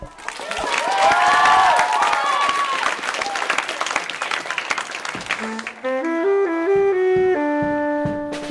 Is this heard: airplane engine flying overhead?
no